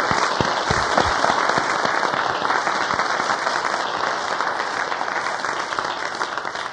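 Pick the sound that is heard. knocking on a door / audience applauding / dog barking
audience applauding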